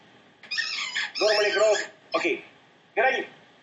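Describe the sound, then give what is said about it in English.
A male dog named Max, excited, plays with his special squeaky toy: four loud, high, wavering squeaks, two long and two short, with brief pauses between them. “My dog is playing. Yeah. I just came back, and he's very much excited. And he has a special toy. Yeah, I hear it.”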